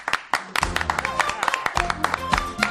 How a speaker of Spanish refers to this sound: Hoy que tengo público, la ovación de bienvenida tiene que sonar, pero bien. Él es ….